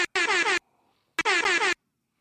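Two short, loud blasts from a sputtering, broken air horn used for trivia time on the Mosh Jelton Show, each about half a second with a clicky start and stop, separated by a brief pause, heard alone.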